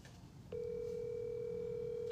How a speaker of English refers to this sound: We're gonna phone a friend. We're gonna phone Zach.